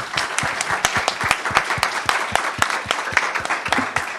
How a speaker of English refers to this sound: Thank you for your questions. Please give my incredible panelists a round of applause.